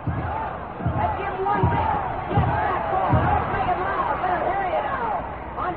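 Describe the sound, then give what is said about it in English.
The Wisconsin Badgers cheering section at a football game against Southern California chants "go, go, go" in a steady rhythm, repeated shouted bursts rising over a constant roar of stadium noise, loud and sustained throughout. “And the Badger cheering section sets up the howl of go, go, go.”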